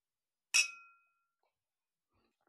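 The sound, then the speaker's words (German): Glasses clink together once in a toast, a bright, sharp chime with a short ringing tail fading over about half a second, with no talking. “Prost, ihr Süßen.”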